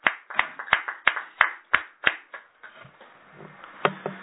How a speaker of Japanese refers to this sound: 盛大な拍手でお祝いします。